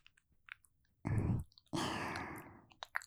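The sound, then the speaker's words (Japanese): Warm breath is blown right up against the listener's ear: a short, rumbling puff followed by a longer exhale that slowly fades, with faint soft mouth clicks around it and no talking. “耳元でうったかーい吐息吹きかけられるの。”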